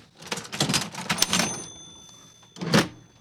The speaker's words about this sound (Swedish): Och så har du din kassaapparat här och du säljer lite karameller, strut 20 kronor.